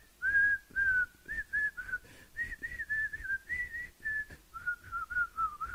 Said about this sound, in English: But first, was that you actually whistling at the end? Are you trying to take credit for that? What was that phase?